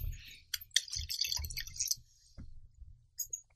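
Quiet crackling and clicking of a screw cap being twisted off a rosé wine bottle, a cluster of sharp ticks over a second or two, then a few scattered clicks with low handling rumble.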